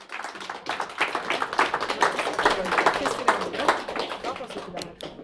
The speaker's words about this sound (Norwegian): Jeg har styrt mye med den ungdomsklubben her, og jeg vil gjerne få opp de ungdommene som er med i ungdomsgruppa til den ungdomsklubben. De kan komme opp på scenen. Ja, gi dem en applaus.